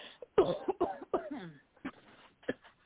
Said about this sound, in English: Everybody cough.